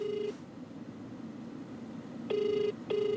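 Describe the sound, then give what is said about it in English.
A telephone ringback tone heard down the line as journalists call again, with steady buzzing bursts repeating at regular intervals over a low hiss, while nobody picks up. “Because we are nosy journalists, we try calling again just in case, but the phone rings out and we can't get through again.”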